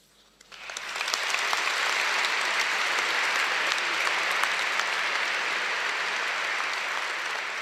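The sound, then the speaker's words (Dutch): A large audience bursts into applause for Pope Leo XIV during his pastoral visit to the cathedral of Naples, swelling within the first second into steady, dense clapping that holds at a loud, even level to the end without any talking. “Een groot applaus dus voor Paus Leo XIV in dit moment, het pastorale bezoek aan de kathedraal van Napels.”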